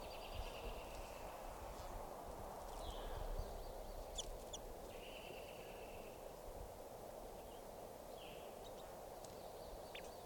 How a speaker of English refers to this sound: And a wild bird's coming in, going down. It's a male. Pointing out 545. Stop. This is a wild bird.